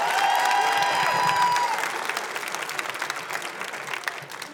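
A crowd bursts into applause, dense clapping with a few whoops and cheers at the start, then thinning into scattered claps as it fades over a few seconds. The audience claps on a count of three in response to a 'toilet seat down' call.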